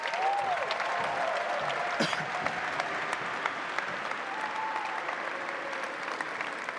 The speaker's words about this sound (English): Clap it up for them. Have a seat, fellas. Clap it up for them one more time.